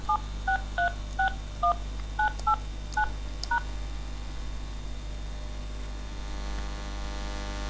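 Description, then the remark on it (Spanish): A quick run of about eleven two-tone telephone keypad beeps, short and evenly spaced, dialing the local Skype number for Zaragoza on a cordless phone line, over a steady low electrical hum and faint static, with no voices. “Voy a llamar al Rindos Skype de mi ciudad, en este caso Zaragoza.”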